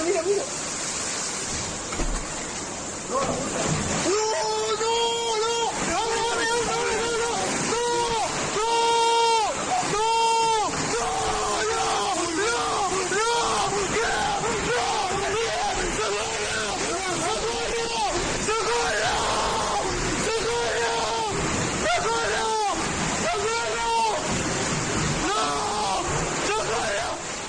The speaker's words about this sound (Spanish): En Covisa se vivieron momentos de pánico, como en esta vivienda cuyo muro no soportó el fuerte empuje del agua.